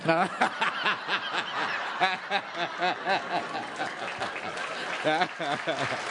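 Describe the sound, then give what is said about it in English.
A crowd claps steadily for about six seconds while bursts of laughter and snickering ripple through, loud and continuous with no clear break. “Yes, I'm applauding that too.”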